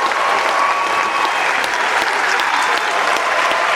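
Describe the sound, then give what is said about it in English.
Loud, sustained applause and a room-wide standing ovation as the Paris Agreement on Climate Change is adopted at COP21 in Paris: a dense, steady roar of clapping with scattered cheers and whistles rising above it, continuing without a break. “To the sound of impassioned applause and a room-wide standing ovation, the Paris Agreement on Climate Change was adopted on Saturday at COP21 by the parties to the UN Convention on Climate Change.”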